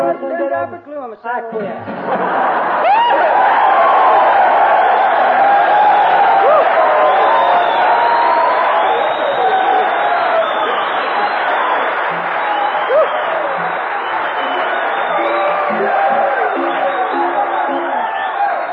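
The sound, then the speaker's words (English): A loud crowd of music lovers at a music performance roars to life after a couple of seconds, cheering, whooping and applauding in a steady, dense wash that carries on without letting up until the end. “Such a lovely crowd, I'm glad I dressed up.”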